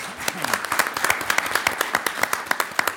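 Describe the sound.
An audience applauding: many hands clapping in a dense, steady patter of sharp claps, fairly loud throughout, with faint voices underneath.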